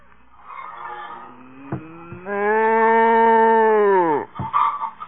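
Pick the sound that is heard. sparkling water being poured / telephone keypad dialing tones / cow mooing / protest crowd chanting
cow mooing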